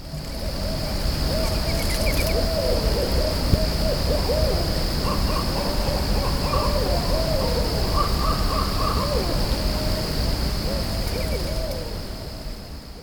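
Owls hoot repeatedly in a steady, wavering chorus while crows caw intermittently and a songbird chirps faintly, outdoors at Mountain Lake in Giles County right at midnight, over a constant insect-like drone.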